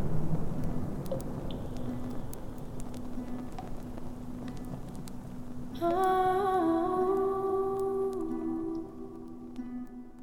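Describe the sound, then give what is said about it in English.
Steady rain hisses through a stormy ambience with a low, constant drone beneath, and about halfway through sustained musical tones swell in over the downpour. “Storm's getting worse.”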